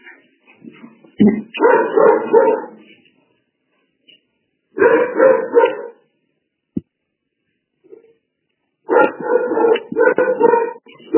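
A small female dog named Azuki barks and yips in three separate flurries, fairly loud, with quiet pauses between them and a single sharp click in one gap.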